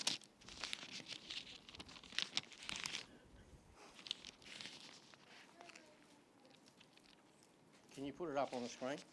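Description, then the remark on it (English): Paper rustling and crinkling in scattered bursts as a speaker turns to a Bible passage and a small slip of paper falls out, quieting briefly before more handling, then a voice starts speaking near the end. “A little bit of paper fell out.”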